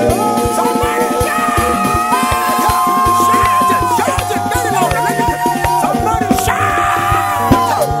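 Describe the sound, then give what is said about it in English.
An audience shouts and cheers loudly and continuously over steady instrumental music with a pulsing bass line, with no pause for the full length. “I want to hear how you are going to shout when God will give you that promotion.”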